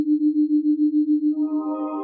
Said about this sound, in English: The tones in Carol's ears are slightly out of phase, but they can't be equalized by turning her head.